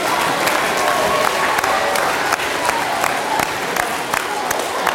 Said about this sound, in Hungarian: Már csak azért is jár a nagy taps nekik, mert elhárították az akadályt arról, hogy kiderüljön,